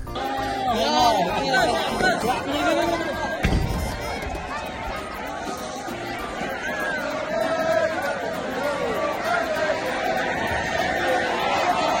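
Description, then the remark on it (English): A loud, excited crowd roars and chatters continuously, with overlapping voices, shouts and cheering swelling throughout, dense babble filling the whole stretch without pause. “Yeah, whatever that gibberish shit that it said, it got all the crowd riled up and made them happy, so...”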